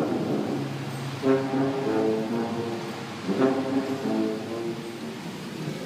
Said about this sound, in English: It's raining, traffic's crazy, and I just walked or drove through a tunnel where a man's playing a tuba. The Tuba Man.